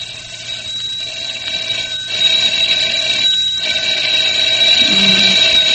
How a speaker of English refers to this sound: Oh, that darn phone.